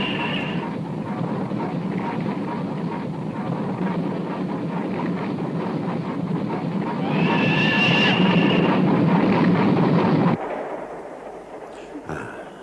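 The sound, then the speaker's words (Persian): A train rumbles loudly and steadily as it arrives at a station, with high metallic brake squeals near the start and again as it slows, before the roar cuts off abruptly, leaving quiet clanks. “قطارمون اینجاست.”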